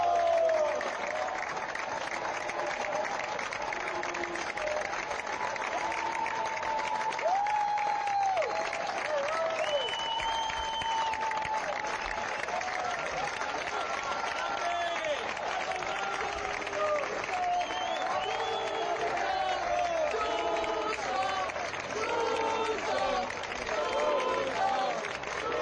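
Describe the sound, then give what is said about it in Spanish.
Sustained applause and cheering from a large crowd of fellow athletes in the Olympic Village at Rio 2016, welcoming an athlete with a record seven Olympic participations; steady and dense throughout, with scattered shouts and whistles rising above the clapping. “En Río 2016 fue la despedida que comenzó, como no podía ser de otra manera, con una gran ovación.”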